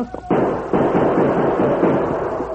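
gunshots

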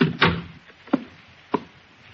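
door being shut

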